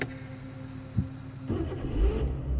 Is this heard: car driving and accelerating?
yes